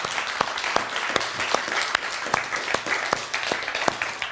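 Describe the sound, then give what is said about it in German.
A festival audience applauds steadily to thank the site's hosts, AStA Bamberg and Kontakt Kulturprojekt und Festival. A dense wash of many hands clapping at a brisk rhythm, with a few sharper individual claps standing out. Fairly loud and sustained throughout, without talking over it. “Dafür schon mal einen richtig dicken Applaus.”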